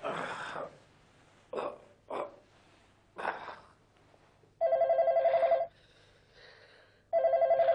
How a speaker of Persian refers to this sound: یکیتون اون تلفن رو برداریم بابا جا. آخه بابا، بچه چرا پس تلفن رو بر نمیدارین عزیزم؟